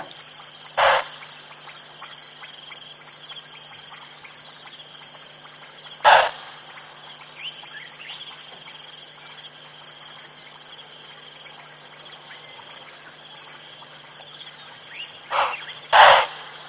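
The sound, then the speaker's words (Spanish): Impala alarm calls: four sharp, explosive snort-like bursts, widely spaced at first, the last two in quick succession, standing out loudly over a steady background chorus of insects and frogs. “Este, por ejemplo, es el sonido de alarma de los impalas.”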